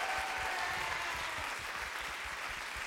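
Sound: audience applauding and cheering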